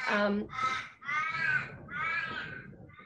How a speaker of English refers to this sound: Crazy birds.